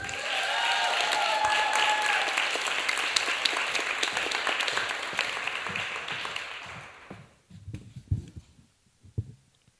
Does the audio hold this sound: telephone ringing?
no